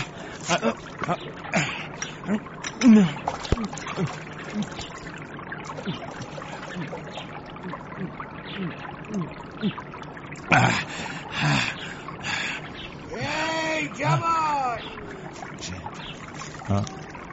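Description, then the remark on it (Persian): Steady water of a spring flowing and trickling by a pond and a tree, a continuous babbling wash with occasional splashy surges, while a voice speaks over it at times. “خدا را شکر به آبی روان رسیدم.”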